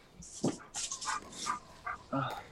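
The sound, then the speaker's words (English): Apollo, a dog, breathes loudly in a series of irregular, breathy huffs, with a few short, high whimpers mixed in. “You got your dogs over there now?”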